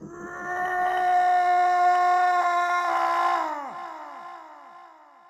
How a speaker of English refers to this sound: Achilles tips back his begrimed face and lets out a roar which can be heard by a shepherd in the Caucasus.